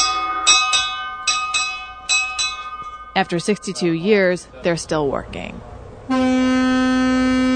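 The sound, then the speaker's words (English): On the bridge of the 290-foot icebreaker Mackinac, the daily test of the vessel's alarms and whistles: the alarm rings in several short, bright bursts, then a man speaks briefly before a loud, steady whistle blasts continuously on one sustained tone. “I'm on the bridge of the 290-foot icebreaker, and I'm just in time for the daily test of the vessel's alarms and whistles.”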